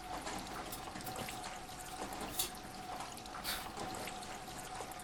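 Water pours steadily into a cup in a continuous trickle, with a faint ringing tone running underneath and a couple of brief splashy bursts midway.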